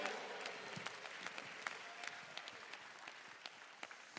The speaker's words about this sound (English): If you can testify to that, let your hand clap and shout. Be the loudest.